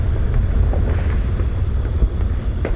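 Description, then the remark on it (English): Fireworks set off by families in a residential neighborhood crackle and pop in scattered bursts, their booms echoing over a constant low outdoor rumble, with a sharper burst near the end. “So families come out and play fireworks.”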